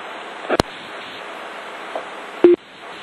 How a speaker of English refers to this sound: He just beeped out. He's got to get another phone.